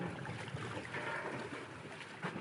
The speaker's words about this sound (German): Links und rechts vom Ponton, an dem auch die Hafenfähre anlegt, liegen alte Schiffe und Kähne im Wasser und schaukeln leicht in den Wellen, die von der Elbe her an die Anlegestelle schlagen.